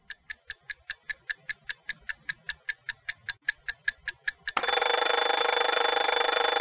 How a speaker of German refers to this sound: Wenn der Wecker zweimal klingelt, ist's vielleicht noch ziemlich früh.